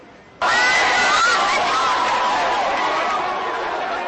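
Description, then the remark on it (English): A large crowd on the streets of Boston erupts into loud cheering after a brief quiet moment, celebrating the arrest of the surviving Boston Marathon bombing suspect. A dense, steady roar of shouting voices, clapping and chants of USA holds strong for several seconds, easing only slightly. “Applause tonight on the streets of Boston, pent up pride and fear, relief.”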